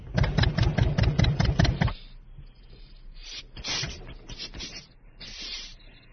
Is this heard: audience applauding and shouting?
no